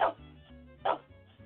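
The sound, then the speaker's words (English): Two sharp barks from Ted, a dog, about a second apart, each a short burst over a low steady hum, with a quieter yip near the end. “Can you hear Ted barking?”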